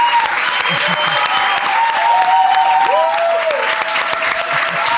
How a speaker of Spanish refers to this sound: Pues va, un aplauso para ella, la ganadora.